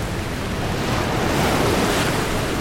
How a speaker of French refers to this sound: 29 septembre 1759. À 600 km des côtes du Chili, une violente tempête secoue les flots de l'archipel Juan Fernandez.